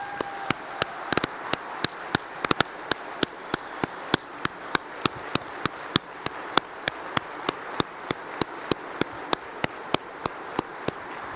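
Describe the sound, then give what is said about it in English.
An auditorium audience in Phoenix applauds Bob Stallman for about eleven seconds, a steady wash of clapping with sharp, evenly spaced claps cutting through at a regular beat. No one speaks over it. “We got to give Bob a round of applause.”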